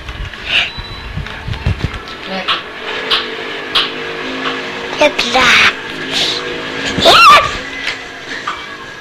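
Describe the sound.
A child plays with a toy car, voicing revving and screeching car noises in short, rising bursts, louder near the end, with scattered background voices and clatter.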